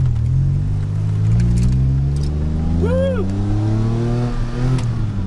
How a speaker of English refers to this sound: Woo! Man, this car has some pickup. And this is coming from a guy with a Corvette. This car is actually pretty quick. Don't be fooled. DeLorean is quick.